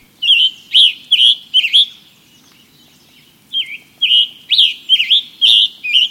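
A tanager sings alone: a run of burry, whistled phrases around a few kilohertz, grouped in two bursts with a short pause between, each note rising and falling, fairly loud over faint background hiss.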